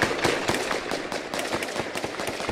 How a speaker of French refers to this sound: 13h56 sur Europe 1, nous apprenons qu'il y a des coups de feu en ce moment même à Dammartin, en Seine-et-Marne. Oui, je suis à quelques mètres de ce qui se passe et effectivement, en face de moi, on voit des coups de feu, des étincelles.